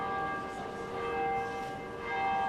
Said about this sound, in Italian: Per questo motivo, oltre al canto del muezzin che si diffonde dai minareti delle moschee, nel centro storico della megalopoli turca è comune sentire anche il suono delle campane delle chiese.